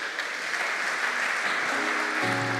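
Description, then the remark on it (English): A church audience breaks into steady, sustained applause after the sermon, dense clapping filling the moment, with a low sustained tone rising underneath toward the end. “We thank God for the word. Another clap, please, another clap.”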